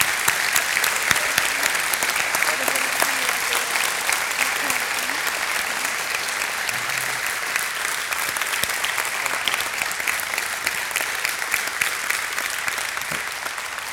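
Sustained applause from a large audience, a dense, steady wash of many hands clapping at even loudness for the whole stretch, with faint crowd murmur underneath.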